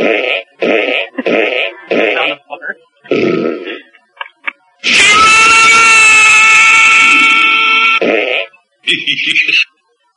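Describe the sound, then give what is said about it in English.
A run of short, punchy fart sound effects from a soundboard in quick succession, followed by a long, loud, drawn-out buzzing fart and a final brief one. “I want a fart.”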